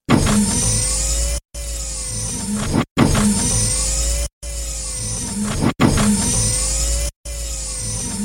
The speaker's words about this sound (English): And opened and closed the pod door about 100 times.